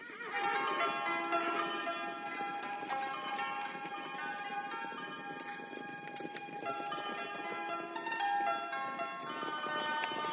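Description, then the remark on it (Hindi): A horse-drawn cart carrying a large block of ice rolls along, hooves clopping steadily beneath bright, continuous jingling bells, moderately loud and unbroken for the whole stretch, with no voices. “और अपनी घोड़ा गाड़ी पर उसे लाद कर जल्दी अपने घर को चला।”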